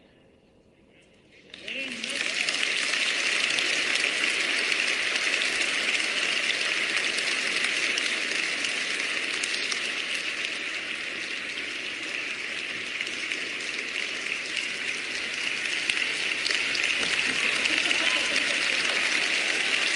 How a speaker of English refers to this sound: Standing applause. Standing O for AI Charlie Kirk.